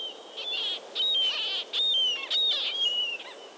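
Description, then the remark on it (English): A murrelet, a small endangered seabird of the West Coast that nests in old coastal forests, gives a rapid series of high, sharp, piercing calls, several in quick succession with brief gaps, loud, with no talking. “murrelet is a small, endangered seabird that nests in old coastal forests on the West Coast.”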